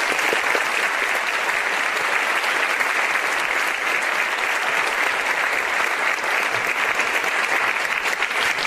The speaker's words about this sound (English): Please give our debaters a round of applause.